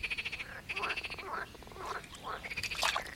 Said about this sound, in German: Auf Bibis Kopf, da sitzt ein kleiner Frosch und quakt jämmerlich. So sehr hat er sich erschreckt.